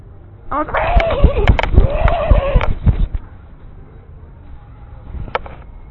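A horse gives a loud whinny lasting a couple of seconds, mixed with sharp clip-clopping hoof strikes, then fades to a quieter background with one brief clatter near the end.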